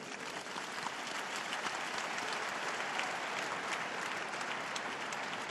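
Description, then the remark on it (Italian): A large crowd applauds a newly beatified woman, a dense, continuous wash of clapping that holds at an even level throughout, sounding broad. “Vi invito a fare un applauso alla nuova beata.”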